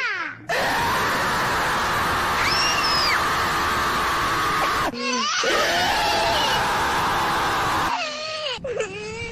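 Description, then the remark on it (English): A six-year-old child's voice imitates a tiger's roar with two long, loud, raspy growling screams, followed by a shorter final burst, all harsh and strained with shifting pitch. “Want to hear a tiger roar?”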